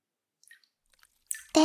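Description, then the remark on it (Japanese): Soft water sounds from hot water: a few faint drips and small splashes, then a burst of wet sloshing and swishing near the end, with no talking. “それに、水音も聞こえて、癒し効果も抜群だよ。”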